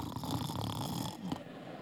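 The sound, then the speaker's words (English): Someone makes a loud, rattling snore sound with their voice, one long drawn-out rasping breath lasting nearly two seconds, with no words. “He's never snoring. He's never asleep.”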